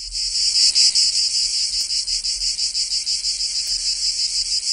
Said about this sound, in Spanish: Esta noche queríamos dedicarle un espacio a uno de los sonidos más característicos del verano y a sus artífices, las cigarras.